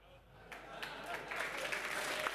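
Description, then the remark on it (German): An audience breaks into applause: scattered claps start, then quickly thicken into a steady, dense patter that swells in loudness over a couple of seconds. “Applaus.”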